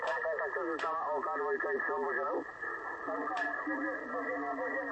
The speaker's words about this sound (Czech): A tak tohle je místní, OK4BB, jo. A všimněte si jeho echo na signálu